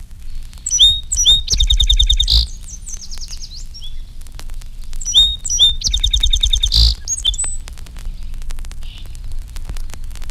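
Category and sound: bird, song sparrow song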